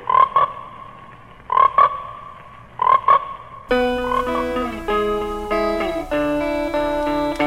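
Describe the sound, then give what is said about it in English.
Frogs croak in three raspy, closely spaced bursts at a steady pace, clear, in a spot for the film Frogs, before a layered tonal music passage abruptly takes over. No one speaks. “Frogs, today the pond, tomorrow the world.”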